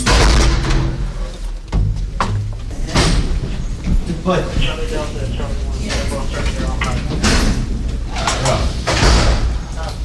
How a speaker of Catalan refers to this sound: un militar de baixa graduació ens precedeix i va obrint portes a preu fet